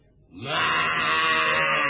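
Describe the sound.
A person imitates a buffalo's call during a playful mock interview: after a brief quiet moment, one long, loud, steady moaning bellow rises and is held until the end.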